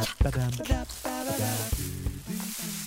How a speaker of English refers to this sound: I think I hear a waterfall. That must be the old mystery cave.